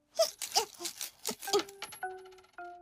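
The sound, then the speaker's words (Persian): Several 500-yen coins clink one after another into a piggy bank, bright metallic taps in a quick uneven run, ending with a couple of ringing tones that fade out. Fairly loud. “ببین داداش من دارم پولامو جمع میکنم توی قلک خوچی. همشو سکه 500 ینی گرفتم تا احساس کنم خیلی پول دارم.”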